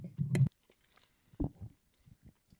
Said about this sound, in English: Yeah, man. Sorry, I was chewing.